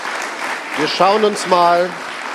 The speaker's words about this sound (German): Sehr schön, das ist ein schöner Doppelpunkt. Kräftiger Applaus an der Stelle. Dankeschön.